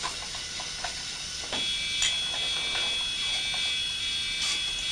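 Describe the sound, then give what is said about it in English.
A train's wheels squeal against the track in a thin, high-pitched, steady whine that starts partway through and holds over a rumbling, hissing rail noise. No one speaks. “Sounds like a pig screaming, I think. It's not, it's a train.”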